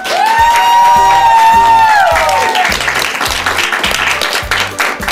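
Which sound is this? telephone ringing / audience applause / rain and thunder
audience applause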